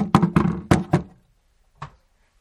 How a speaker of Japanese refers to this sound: 何にかかってるかというとな、UCC のオリジナルコーヒー、エヴァ缶だ。初代エヴァ缶だ。 しかも未開封。この音聞こえるか？何年前か知らないけど、コーヒーの音だぜ。